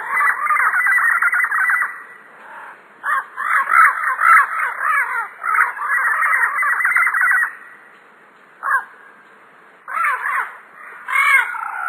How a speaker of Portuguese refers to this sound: Também conhecido por papagaio verdadeiro, o Amazona Estiva habita a copa de florestas, palmeirais e beiras de rio.